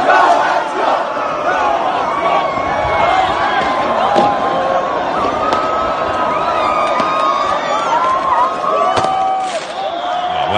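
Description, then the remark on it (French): A large hockey crowd celebrates in the street around the Centre Bell, voices chanting and shouting together in a dense, steady roar, with scattered whistles and sharp cries rising above the din throughout. “Puis à un moment donné, on a commencé à voir manif en cours parce que, bien sûr, il y a eu des célébrations autour du Centre Bell et des vidéos où on pouvait entendre à peu près la même chose, c'est-à-dire ceci.”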